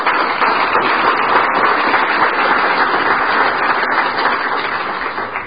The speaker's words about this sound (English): I don't mind you applauding, because as far as I'm concerned, you're applauding for Alcoholics Anonymous. You're not applauding for me.